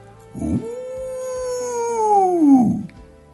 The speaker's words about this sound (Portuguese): Lá em cima eu pigarreei e escolhi cuidadosamente a minha oitava e mandei para o ar o meu uivo mais bonito.